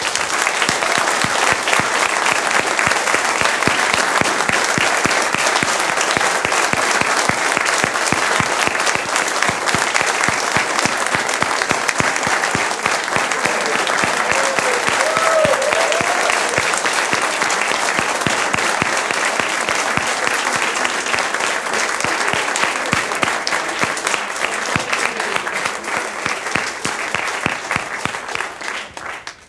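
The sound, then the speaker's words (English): Sustained, dense applause from a large audience for the video team, loud and steady for about thirty seconds with countless overlapping claps, tapering slightly at the end; no one speaks over it. “Massive round of applause for the video team.”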